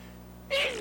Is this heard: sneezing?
yes